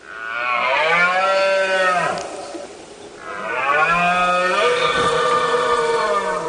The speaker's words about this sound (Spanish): ¿Te has quedado con esto? ¿Te has quedado con este bramido del ciervo en plena época de celo?